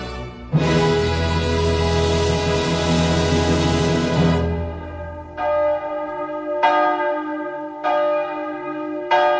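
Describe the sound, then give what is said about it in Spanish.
Church bells toll loudly, a rich clanging peal with long ringing overtones, followed by three separate strikes that each hum and fade. No voices are heard. “Ay, ya tengo el doble de esas campanas metido en las sienes.”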